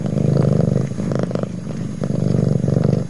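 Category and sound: animal, cat purring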